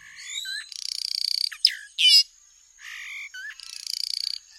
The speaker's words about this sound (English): That incredibly tuneful bird song is from the black catbird, native to the Caribbean. It's one of the world's most endangered bird species, with only an estimated 20 to 50,000 left.